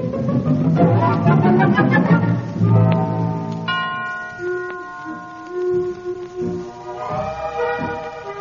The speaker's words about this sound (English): Curtain. First curtain. There's the signal for first curtain. The house lights are out, and here's the play.